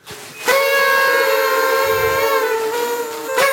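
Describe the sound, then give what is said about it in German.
A loud party horn blares in one long, steady, buzzy note lasting about three seconds, with a short sharp blast at the end and no voices. “Okay, ganz kurz mal, wo kommen diese Tröten jetzt hierher? Das sind Partytröten.”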